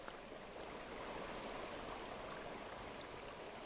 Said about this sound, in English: Water from recent spring rains rush out of Black Bass Dam spillway this morning.